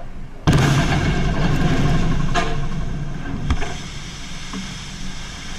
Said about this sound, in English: And so what they've got here is this is the actual audio of two 10,000-pound TNT bombs going off underwater. Whoa. By the way, the ships did fine, but it's pretty cool when you hear the explosion and you hear the spray of the water.